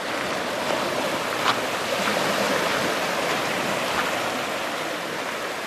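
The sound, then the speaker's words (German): Gentle, glassy-calm sea washing over the pebble beach at Hythe in southern England, on the English Channel in autumn; a steady soft hiss with faint trickles and small clicks of stones, no voices. “Doch das Meer am Kiesstrand von Hythe liegt spiegelglatt da.”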